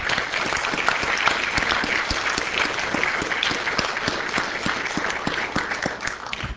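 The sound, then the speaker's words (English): Steady, dense applause from an audience at an event, a round of applause for everyone who came and spoke; many hands clapping together in a loud, sustained wash that holds evenly for several seconds before easing slightly at the end. “So let's have a round of applause for everyone.”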